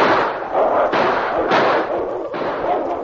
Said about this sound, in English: The shot scared the wolves. They're running away.